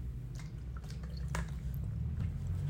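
speaker drinking water

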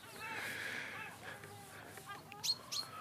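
seagulls calling overhead

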